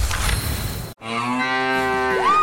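After a brief burst of noisy rumble and a short pause, a single long, loud cow moo rings out clearly, its tone rising slightly toward the end.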